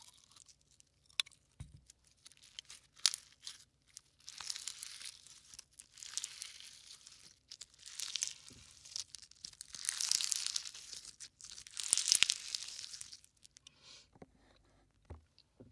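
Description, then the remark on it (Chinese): Slime being squeezed, giving off dense bursts of crackling, sharp pops that swell and fade in waves over about fifteen seconds, bright and harsh, with no talking. “听史莱姆的声音是比较炸耳朵的那种，但我还蛮喜欢的。”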